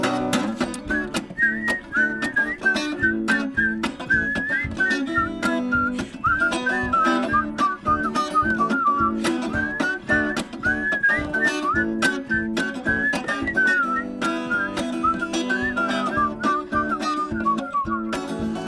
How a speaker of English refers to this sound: Oh, here we go. Okay, everybody whistle.